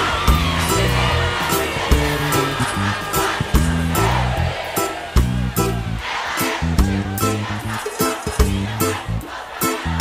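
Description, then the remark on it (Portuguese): A loud crowd shouting and whooping together over a pounding, rhythmic beat, the cheering steady and dense throughout with sharp bursts on the accents. “Aquele gritão gostoso, vá!”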